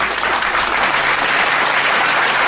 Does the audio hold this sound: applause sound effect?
yes